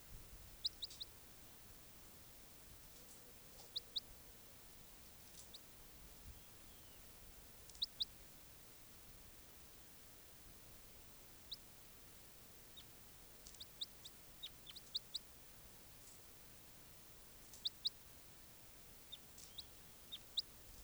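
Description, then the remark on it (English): Brief, high-pitched bird calls, often in quick doubled notes, recur every few seconds over a soft, steady background hiss; no one speaks. The calls are from bird number 591 and sound like a type 3 call. “That weird call was 591. Sounded like a type 3 call.”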